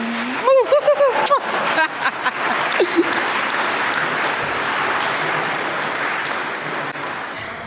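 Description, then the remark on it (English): A crowd breaks into a round of applause, opening with a few brief cheers and whoops, then settling into steady, dense clapping that carries on at an even level to the end. “Round of applause.”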